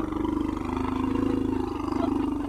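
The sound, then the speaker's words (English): A baby elephant named Boromoko, leaving its grazing area to return to its cage at the David Sheldrick Elephant and Rhino Orphanage just outside Nairobi, Kenya, gives a loud, sustained rumbling roar that holds steady with a slight pulsing texture for a couple of seconds, with no voices present. “That was a baby elephant named Boromoko leaving its grazing area, returning to its cage.”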